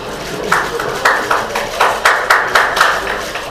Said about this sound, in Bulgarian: Следват бурни ръкопляскания.